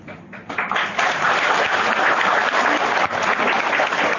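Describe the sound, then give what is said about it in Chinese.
An audience breaks into applause, the clapping swelling within the first second and then holding as a steady, dense patter of many hands with no voices over it. “好像没人想去玩的，鼓掌不热烈，说明没人想去玩。”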